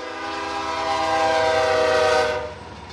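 A freight train passes the railroad crossing in the small town of Loretto, on the western edge of Hennepin County, its horn blaring in a loud, sustained chord over a low rumble before easing off near the end. No one speaks.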